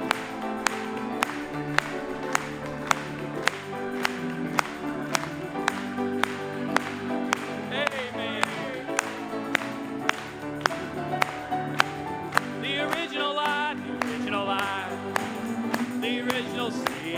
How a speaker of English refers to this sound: Let's just clap it to him. Amen.